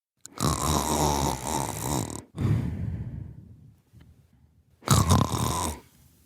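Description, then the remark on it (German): A 29-year-old person from Bonn snoring loudly: a long, rough, rattling inhale, a short gap, a fading breathy exhale, then another harsh snore that cuts off abruptly. “29, aus Bonn und schnarche.”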